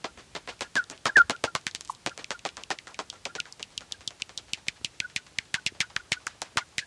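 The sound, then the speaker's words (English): Common pipistrelle bats feeding by a brook at 10 p.m. Their echolocation and social calls were recorded with a Magenta bat detector and a pair of omni microphones, then brought down to human hearing range. A fast, steady stream of dry clicks and pops, about six per second, with a few brief chirpy social calls mixed in. No voices. “What you're hearing is the echolocation and social calls, recorded with a magenta bat detector and mixed with a pair of open Omni microphones.”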